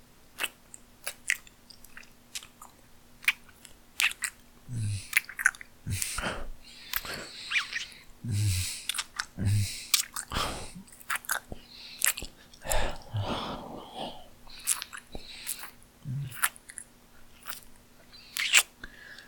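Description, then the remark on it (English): Wet mouth noises of a tongue licking in circular motions: repeated sucking and slurping with sticky clicks and smacks, irregular and fairly quiet, with no talking throughout. “Circular motions with my broad, flat tongue, gentle sucks and slurps of your sweet pussy.”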